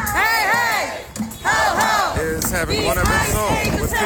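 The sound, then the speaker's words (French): A loud crowd of protesters outside the hotel where ICE agents are lodged chants "ICE equals Gestapo" in unison, voices rising and falling in repeated shouted phrases with a steady rhythmic cadence, the mass of voices continuous throughout. “On crie « ICE égale Gestapo ». À partir de là, les manifestations sont quotidiennes.”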